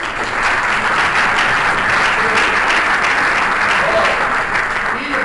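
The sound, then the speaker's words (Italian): A crowd applauds to welcome the evening's moderator, who is responsible for ecumenism in the Diocese of Biella, a dense, even wash of many hands clapping at a constant loudness for about five seconds, with no voices standing out. “fatemi un bel applauso.”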